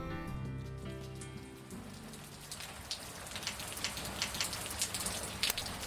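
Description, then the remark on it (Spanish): Steady rain patters on a hard surface, a dense hiss broken by scattered sharper drop impacts, starting right after a brief musical chord fades out at the beginning. “¡Otra vez lloviendo!”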